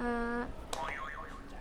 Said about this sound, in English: Do you want to press another buzzer for me?